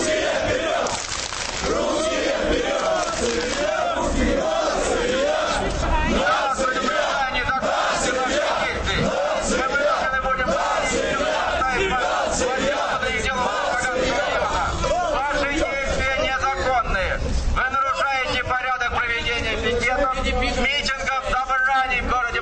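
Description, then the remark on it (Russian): A crowd of 60 to 80 young people, mainly neo-Nazis, many with shaved heads, chants nationalist and homophobic slogans in unison outside a club watched by OMON riot police, loud, with overlapping voices sustaining a rough, rhythmic roar for the entire stretch. “Кроме криков о нации, толпа скандировала гомофобские лозунги,”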